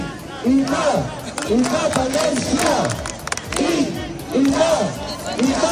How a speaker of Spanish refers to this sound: ha acabado convertido en una suerte de festival del independentismo catalán, aderezado con todos los tópicos posibles como quema de banderas, gritos de puta España y cánticos separatistas.